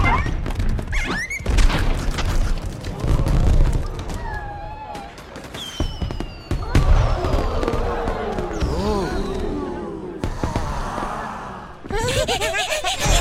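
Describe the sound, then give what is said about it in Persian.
Fireworks burst in a rapid, irregular string of sharp cracks and thuds, with whistling tones gliding through the crackle while voices chatter and call out underneath. “آره راست میگی، ولی شاید بتونی بین این آتیش بازی ها گرمای زندگی تو پیدا کنی.”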